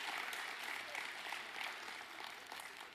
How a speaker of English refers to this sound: Give these kids a big round of applause.